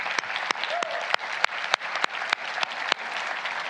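An audience claps steadily, a dense wash of many hands with sharper individual claps popping out roughly every third of a second, sustained at an even level throughout.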